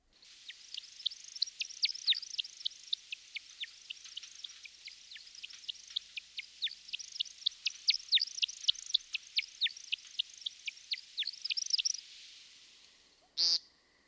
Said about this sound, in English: And since you mentioned that we should keep our ears out for them as well, let's hear a little bit from, let's hear the woodcock.